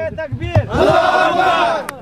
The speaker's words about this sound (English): The team cheer, praise to God, isn't normally heard in these parts, but they are devout Muslims